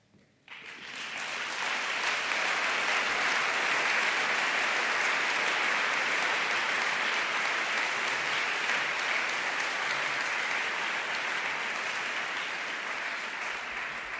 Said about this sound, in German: Kräftiger Applaus für euch. Ihr seht, ihr habt Unterstützung, einen Fanclub mit dabei sozusagen.